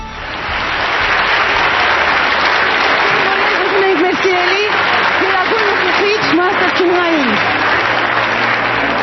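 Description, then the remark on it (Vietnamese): Sustained applause from a large audience in Armenia welcoming Supreme Master Ching Hai, a dense steady roar of clapping lasting the whole stretch, with a voice briefly audible over it partway through. “Kính thưa quý vị, xin quý vị một tràng pháo tay chào đón Ngài Thanh Hải Vô Thượng Sư tại Armenia.”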